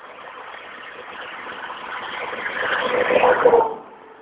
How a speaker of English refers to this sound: oh dear, here comes a big truck.